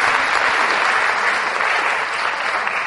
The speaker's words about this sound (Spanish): Ahora que ya los aplaudimos, los exhortamos.